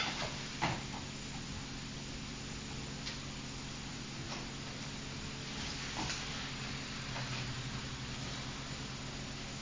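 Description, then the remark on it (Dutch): Butter melts and sizzles steadily in a hot pan, a soft continuous hiss with occasional faint crackles and pops, fairly quiet, with no one speaking. “Nu is de boter smelten.”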